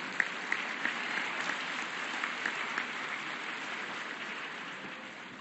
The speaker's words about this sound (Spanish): Ese, le pido ese aplauso.